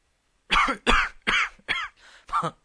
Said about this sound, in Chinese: 当天色破晓时，雕狐累了，甚至有点咳嗽。